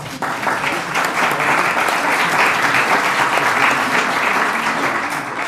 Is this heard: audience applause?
yes